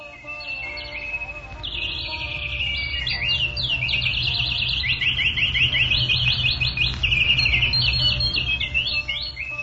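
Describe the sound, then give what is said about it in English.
A loud, busy chorus of birds sings at dawn, chirping and trilling nonstop, many rapid high calls overlapping above a low, steady background rumble, with no one talking. “And when the birds began to sing loudly, they woke Lord Krishna like court poets reciting his glories.”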